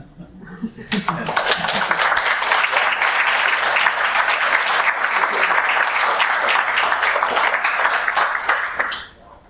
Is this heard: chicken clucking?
no